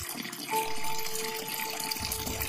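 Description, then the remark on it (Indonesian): A water tap suddenly turns on by itself and runs with a steady, rushing hiss of water, joined after a moment by a thin, sustained whine from the pipes that holds to the end. No one speaks. “Dan tiba-tiba keran airku menyala.”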